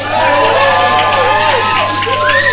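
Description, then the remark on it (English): Loud, sustained crowd noise at The Rock and The Lemon Room during a live radio broadcast, applause blended with cheering and whooping voices welcoming a band on the first day of its tour, rolling on steadily from start to finish without any clear individual speech. “Ladies halfway and gentlemen, big round of applause”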